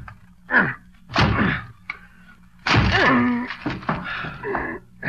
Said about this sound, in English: Okay, give me a chair. I'll break this door down for you.